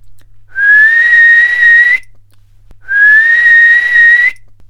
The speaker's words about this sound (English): This made her angrier than before, and she blew her silver whistle twice.